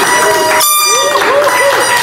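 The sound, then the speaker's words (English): A loud, steady roar of audience clapping and cheering fills the whole stretch, with whoops and rising shouts riding on top of the dense applause. “Let's make some noise for that.”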